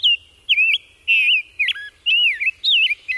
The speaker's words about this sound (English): Head west to the Chicago Birding Trail to savor the songs of the rose-breasted grosbeak.